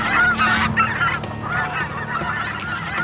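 A flock of waterfowl honks continuously, many overlapping calls blending into a busy, fairly loud chorus with no voices present.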